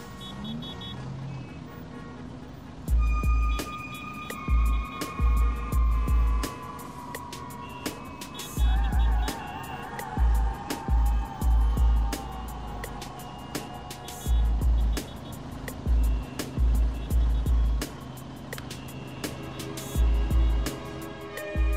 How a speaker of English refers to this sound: Satellite emergency created traffic jams wherever people fled areas of possible impact, like the south of France.